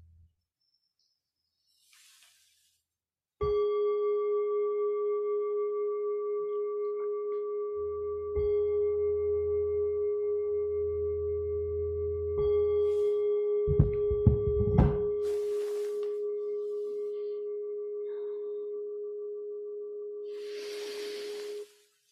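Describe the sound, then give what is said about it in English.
A meditation bell is struck once, signalling the return from a metta meditation, and its steady, mellow tone rings on for nearly twenty seconds, slowly fading, with a few soft low thumps and rumbles beneath it. “When you hear the sound of the bell beginning to come back,”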